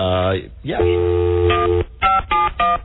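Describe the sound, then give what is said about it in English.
A steady electronic phone tone plays, followed by three short, evenly spaced keypad beeps as a number is dialed, sounding thin and band-limited like it's coming through a telephone. “And then you'll hear the dial, of course. The ringtone.”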